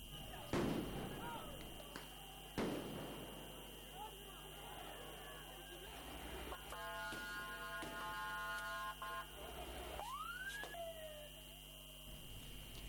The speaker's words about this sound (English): Riot police in Athens fired tear gas and water cannon to disperse the ralliers. This is the second rally in a week in Greece against the COVID vaccination drive.